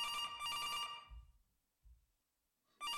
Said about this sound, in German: Einen Moment bitte, ich höre wieder das Telefon.